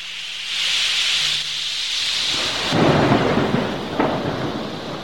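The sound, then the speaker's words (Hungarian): A storm at sea rages with strong, gusting wind tearing at the sails of a sailing ship and hissing rain, then deep rumbling thunder rolls in and builds. No voices, just a loud, continuous wash of weather. “Ekkor hirtelen beborult az ég, erős szél kerekedett, tépte, szakította a vitorla vásznait.”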